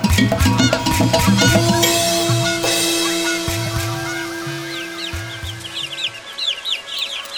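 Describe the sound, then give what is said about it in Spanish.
A small chick peeps repeatedly in high, thin, plaintive cries, as if crying and searching, the peeps growing clearer toward the end over a sustained, droning musical background. “La gualgura es un pollito que anda piando como si fuera llorando, buscando, buscando.”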